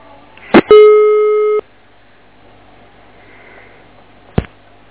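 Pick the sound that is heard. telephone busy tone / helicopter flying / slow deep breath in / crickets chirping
telephone busy tone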